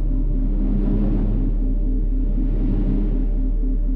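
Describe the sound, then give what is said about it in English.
A steady, low whooshing effect of flying into a wormhole tunnel, with a deep droning rumble underneath, swelling and easing in slow waves of airy hiss. No one speaks. “And do you notice the whooshing sound becoming a little more compact?”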